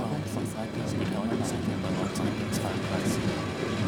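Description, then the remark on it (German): A train rolls along at night at a snail's pace through water that looks like a huge lake, heading toward Laredo, with a steady, heavy low rumble and faint rhythmic rattling, continuous, with indistinct murmuring voices blending into the noise. “Der Zug fuhr im Schneckentempo durch Wasser, wie ein riesiger See aussah.”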